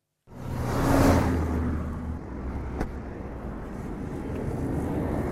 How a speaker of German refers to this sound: Mit großer Geschwindigkeit jagen die Autos und Lastwagen an den ausgebleichten Zelten vorbei.